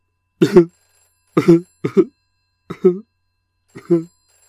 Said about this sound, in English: Ooh, it's that cheesy sound effect of a 1980s-style landline. The kind of phone no one has anymore, but I couldn't be asked to get a more up-to-date sound effect.